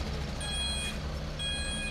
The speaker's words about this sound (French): En marchant dans Bruxelles. En marchant sous Bruxelles. On peut entendre les doux ronflements des marteaux-piqueurs. Les harmonies délicates des camions qui reculent.